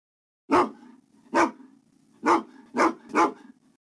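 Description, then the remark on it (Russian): A dog barks five times, the first few spaced out and the last three coming quicker, with a low growling hum carrying on between the barks. “У Нины есть собака.”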